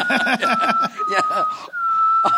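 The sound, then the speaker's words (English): A person whistles through their teeth, holding one steady high pitch while others talk over it, then the thin tone carries on briefly alone before voices return. “You did it through your teeth, though.”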